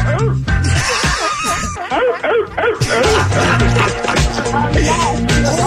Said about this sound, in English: Can this I get a wolf howl or a hyena scream?